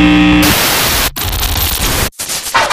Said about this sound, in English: Static and hums.